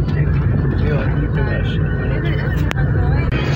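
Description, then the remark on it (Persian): A steady, dense rumble of city traffic in the town of Sarbaz fills the scene, with engines droning and vehicles passing by, and voices murmuring faintly underneath the constant street noise. “این ادا و اصوله و صداها و ماشینه که داریم میشنوید قطعا تو شهر فقط اتفاق میفته.”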